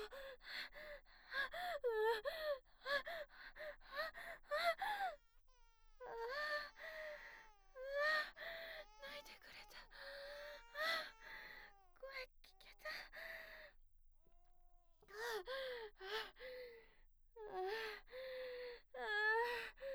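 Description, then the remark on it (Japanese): A baby cries in repeated short, high-pitched wailing bursts with gasping breaths between them, quieting briefly partway through before starting up again. “赤ちゃん泣いてない？”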